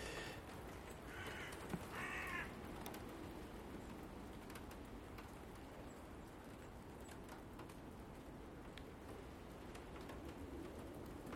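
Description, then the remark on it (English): Water drips off trees onto waste buckets during heavy snowfall in an irregular patter of light taps over a steady hiss, with a couple of harsh crow caws near the start. No one speaks. “I think it's actually dripping off the trees, that's where it is. Onto the waste buckets.”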